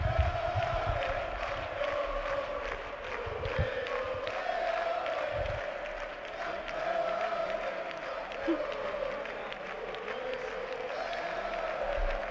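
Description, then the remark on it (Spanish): Atlético de Madrid players chant "campeones, campeones" loudly in unison, a repeated rhythmic victory chant that carries on steadily throughout, with shouting and cheering mixed into the dense crowd noise, as club president Enrique Cerezo comes to the microphone to speak at their title celebration. “Bueno, no le dejan los jugadores del Atlético de Madrid porque gritan campeones, campeones.”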